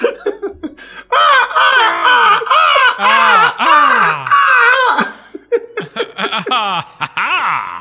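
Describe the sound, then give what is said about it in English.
Several people loudly imitate ravens screaming in delight, cawing together, a few seconds of overlapping, harsh, rising-and-falling squawks, followed by scattered shorter cries and some laughter-like voices trailing off. “The ravens above you begin to scream in delight. Yeah, do the ensemble caw again.”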